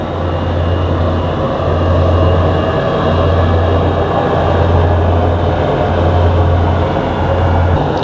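A landing airplane's engines roar steadily and loudly up close, a dense continuous rumble with a low droning hum underneath, unchanging for the whole stretch and with no voices.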